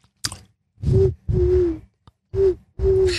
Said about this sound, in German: Ich verrate dir jetzt ein Geheimnis, was geil daran ist, wenn man die Zunge rollen kann. Ja. Man kann dann mit der Zunge pfeifen.